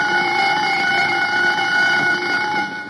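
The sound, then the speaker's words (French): A Jazz alarm clock rings with a bright, steady, continuous tone that holds at an even, loud level for the whole stretch, with no voices. “Écoutez la sonnerie cristalline du jazz.”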